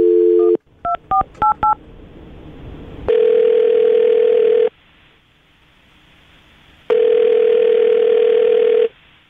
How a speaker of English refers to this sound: All right. Well, I'm going to dial the phone number right now, get her on the phone, and get your second date update, okay? Okay. Here we go.